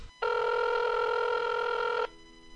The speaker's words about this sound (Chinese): 听电话啦。